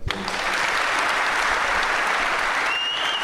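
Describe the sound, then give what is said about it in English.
Loud, sustained applause from a large live crowd in London reacting to an on-stage chat with Shane Duffy, a dense wash of many hands clapping that holds steady throughout, with a faint whistle rising near the end. “Yeah, lovely reaction from the crowd there throughout that chat with Shane Duffy.”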